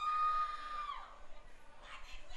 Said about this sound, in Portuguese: Te aquieta essas meninas, larga de gritar.